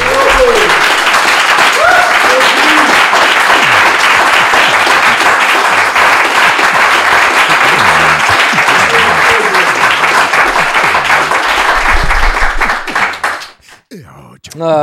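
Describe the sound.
Loud, sustained applause from an audience, a dense wash of many hands clapping for about thirteen seconds with scattered voices mixed in, then it fades out abruptly near the end.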